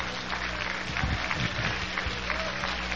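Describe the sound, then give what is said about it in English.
An audience claps steadily for a few seconds, a dense wash of many hands with no clear individual beats, at a moderate level and without any voices standing out. “I'd like to give them a great applause for all the wonderful work they have done.”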